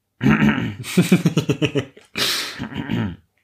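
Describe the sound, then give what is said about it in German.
A person makes a theatrical, voiced cough: a rough throaty burst, then a quick series of rhythmic hacking pulses and a final breathy, raspy cough, close and fairly loud. “Hust.”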